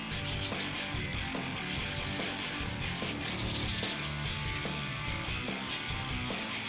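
Close, steady hand sanding of an Irish mail cart: continuous gritty rasping in rapid back-and-forth strokes, fairly loud and even throughout, with no voices.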